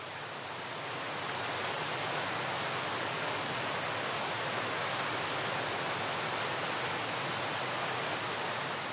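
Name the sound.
waterfall roaring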